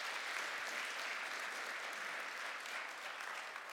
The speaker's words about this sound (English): So I just ask that you would give them a little bit of support by a warm applause, and then the mic is going to kick us off this morning.